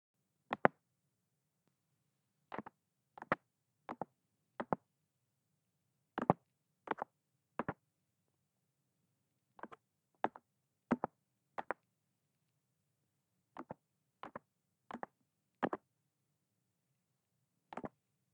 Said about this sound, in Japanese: このタッピングね、動画サイトでずーっと聞いててさ、摩擦系以外だといっちゃんこれが好きかもしれん。超ふわーってしてくんの。